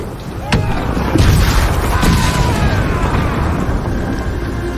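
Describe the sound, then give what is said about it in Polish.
A loud explosion of ignited black powder in a video game bursts out, followed by heavy rumbling and a few sharper blasts that keep the roar going for several seconds before it slowly eases. “Podpal czarny proch! O kurde, to był mój, sorry. Okej. Na statek z zaopatrzeniem! Zanim wybuchnie!”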